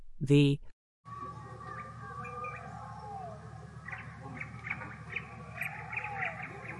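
Dense jungle ambience with birds chirping and calling over a steady humming background, after a brief loud harmonic call at the start and a moment of silence.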